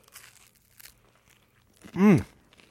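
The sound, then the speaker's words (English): A few soft, crackly crunches of someone biting into crunchy avocado toast, made with a ripe California avocado smashed with a fork, fresh lemon juice and sea salt, followed by a loud, drawn-out appreciative hum from the eater. “you smash it with a fork, you add a little bit of fresh lemon juice and some good sea salt, and you spread it on some good crunchy toast. And that's what you've got in front of you. And let me so just try it here, because it is delicious.”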